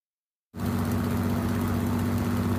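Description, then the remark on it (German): After a brief silence, two engines of the airship Italia, about 80 metres above the ground, suddenly roar back into life as it slowly begins to climb, settling into a steady, loud, droning hum with a deep throbbing rumble, running continuously. No one speaks. “2 Motoren werden wieder gestartet und langsam beginnt die Italia zu steigen.”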